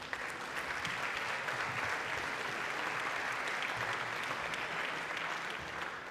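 Sustained audience applause welcoming a speaker before a talk on the E-Privacy reform, a dense steady wash of many hands clapping at an even level for about six seconds, with no voices standing out.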